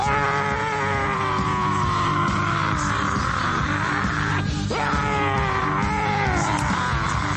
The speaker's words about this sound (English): Thought he was going to scream for a little bit shorter than that, but it is what it is.